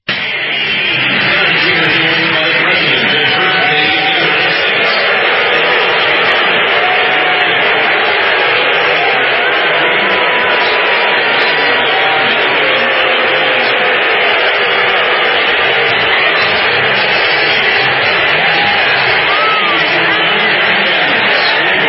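A huge stadium crowd at a game in D.C. lets out a loud, sustained roar of booing at the announcement that a man was at the game, a dense wash of massed voices holding steady for about twenty seconds with no clear individual speech.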